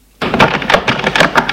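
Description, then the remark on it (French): A front door is opened in the evening to let in a visitor who has rung: after a moment of silence, a sudden rattle starts, followed by a steady stream of scraping, clattering handling noises with no voices. “Un soir, Jules sonne chez Véronique. Elle lui ouvre.”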